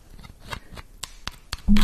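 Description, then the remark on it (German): Firm rubbing of a solid material by hand, which turns the hands black, in a series of short scratchy strokes with a steady rhythm. A louder, fuller sound cuts in right at the end. “Man kann es ziemlich fest reiben.”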